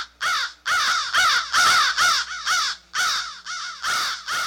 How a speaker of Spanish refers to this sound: Desde el horizonte, una bandada de cuervos pasó gritando horribles sílabas por encima de mi cabeza. Fueron a abatirse sobre el techo del presbiterio y el viento me trajo sus cantos tristes.